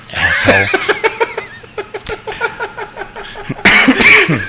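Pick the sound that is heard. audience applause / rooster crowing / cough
cough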